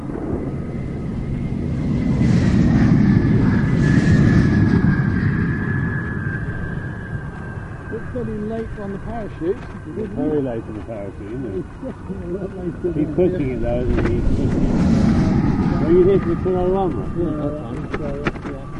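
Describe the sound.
Several support vehicles roar along outdoors, struggling to keep up after the Diesel Max car passes on a test run, engines droning and rising through heavy wind buffeting on the microphone, with faint voices in the middle and a fresh surge of engine noise toward the end.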